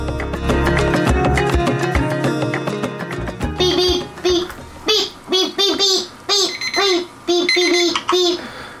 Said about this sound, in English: Beep, beep, beep, okay, beep, you gotta stop beep, beeping or I'm gonna get your mom to come carry you away.